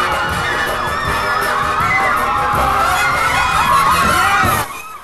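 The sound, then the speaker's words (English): A large crowd of women screams and shrieks continuously as they chase a man, a dense, excited din of high voices that holds steady for several seconds before cutting off abruptly. “A large crowd of women chases him.”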